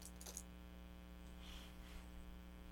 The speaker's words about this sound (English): What you got there? Keys.